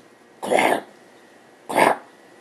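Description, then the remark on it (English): A dog named Zoe coughs and hacks in two harsh, raspy bursts about a second apart, fairly loud, with quiet pauses around them and no talking. “Something sharp and wet, like the sound of a soaked roll of toilet paper being slammed against a wall, broke Zoe's coughing.”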